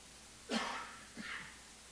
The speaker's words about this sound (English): hold on, I think I'm going to have a coughing fit.